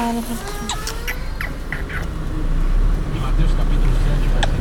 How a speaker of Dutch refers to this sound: En nu zijn we op weg in de taxi naar de eerste hulp van het ziekenhuis.